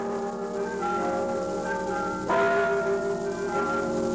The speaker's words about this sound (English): Those are the bells of St. Michael's Russian Orthodox Church in Sitka.